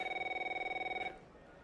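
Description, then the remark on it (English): A telephone rings with a rapid, trilling electronic tone for about a second, then cuts off abruptly, leaving faint background noise. No one speaks. “Is that your phone?”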